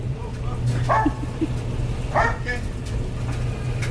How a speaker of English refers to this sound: I didn't know there was a dog in the laundromat. He belongs to that crazy guy back in the back corner. That was a little scary. The dog scared me there for a minute.